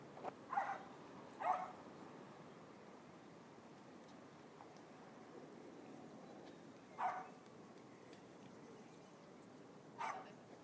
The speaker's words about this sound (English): Yeah, there's a dog.